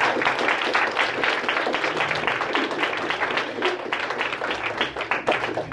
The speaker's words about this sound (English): Can we give Vicky and Jordan another round of applause?